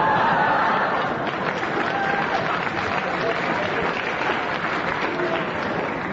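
Loud, sustained studio audience applause on a panel game, backing Clement Freud's challenge, a dense wash of clapping that holds steady for about six seconds with faint murmurs and chuckles mixed in.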